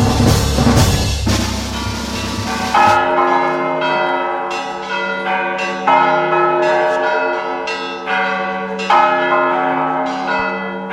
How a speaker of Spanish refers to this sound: El tañido de campanas que Morelos escuchó a lo largo de toda su vida siempre fue de reto, de prueba.